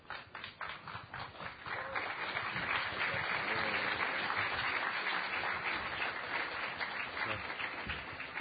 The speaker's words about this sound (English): We're going to have a procession down the aisle. If you could just – it's given so much service. So you know, polite applause would be appropriate, I think.